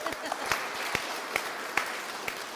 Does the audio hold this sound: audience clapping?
yes